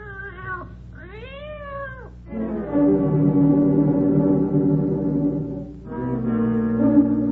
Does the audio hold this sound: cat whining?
yes